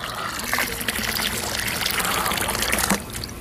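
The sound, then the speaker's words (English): A steady gush of water from a whole bucket pours and splashes into an empty, dry pond for a few seconds, a continuous rushing, bubbling flow that ends with a slight drop in loudness near the end. “And so Glory and Liv watched as all the animals ran over to this empty, dry pond and watched Wally dump a whole bucket of water into the pond.”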